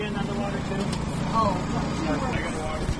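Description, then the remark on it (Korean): A food truck's engine hums steadily, a low droning whir that holds even throughout, with faint voices murmuring in the background, where food trucks are lined up on the National Mall in Washington, DC. “이 화물차여서 이런 기계 소리가 들리기도 하는데요.”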